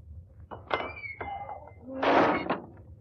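A heavy cast-iron door into a tower is shoved open by a strong push, with a grinding, creaking scrape and a couple of clanks, ending in a louder bang as it swings wide.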